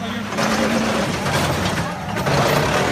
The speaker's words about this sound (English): The driver guns the gas as he does his best to take off. But the wheels just go round and round.